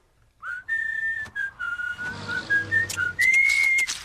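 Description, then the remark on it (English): A bright, cheerful whistled melody, a string of clear sustained notes gliding between pitches with short breaks, opens the theme tune of the cartoon Fanboy and Chum Chum, with faint backing music underneath. “Starts with whistling.”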